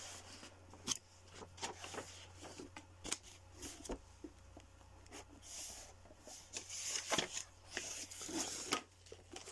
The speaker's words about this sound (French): Là, je suis en train de me battre avec les feuilles là.